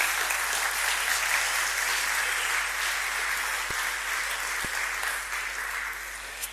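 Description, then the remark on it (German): Sustained applause from an audience, given as encouragement, a dense steady patter of many hands clapping at once, holding strong for several seconds before easing slightly at the end. “Geben wir mal einen Applaus, eine Ermutigung.”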